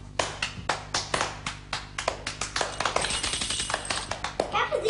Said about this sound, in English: És minden kő tapsol, igen. Okay, please start clapping.